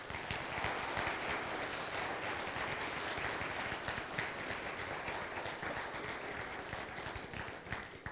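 audience applause

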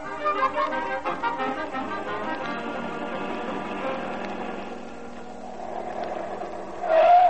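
car driving off

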